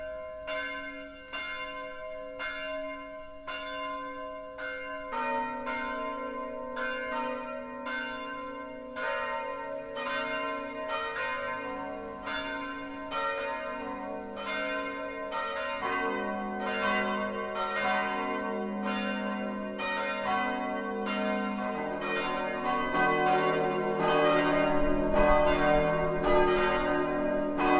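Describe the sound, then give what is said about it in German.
Church bells ring a full midday peal at 12 o'clock from the four bells in the tower of the Protestant Lutheran Christ Church in Partenstein, Lower Franconia, Germany. Several bells overlap in a steady, rolling rhythm that builds richer and louder over the half minute, with no talking. “Das Mittagsläuten kommt heute von der evangelisch-lutherischen Christuskirche im unterfränkischen Partenstein.”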